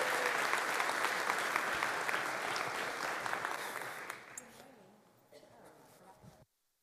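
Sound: audience clapping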